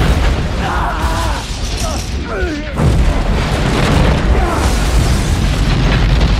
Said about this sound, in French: 19h50, un bateau, l'USS Gaines Mill, rapporte avoir vu une énorme boule de feu provoquée par l'explosion d'un avion.